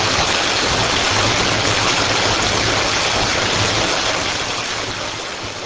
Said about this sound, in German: Und so wird das Wasser aus dem Teich abgelassen, bis teilweise trockene Flecken zu sehen sind.